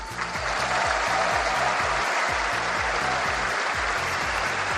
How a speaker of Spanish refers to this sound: Ovación para Marc-André Ter Stegen.